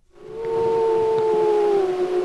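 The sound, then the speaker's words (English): Gray wolves of the Druid Peak Pack in Yellowstone National Park's Lamar Valley howl in a long, sustained, steady tone that sags slightly toward the end. The howling is loud and fills the whole clip, with no talking. “Those are gray wolves, specifically the wolves of the Druid Peak Pack.”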